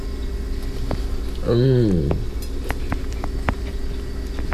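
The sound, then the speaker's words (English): Soft, irregular mouth clicks and smacks of someone chewing a nibble of rustic pie, with a brief hummed "mmm" of enjoyment partway through over a low steady background rumble, on a Friday morning with heavy rain outside. “Sorry for the chewing again.”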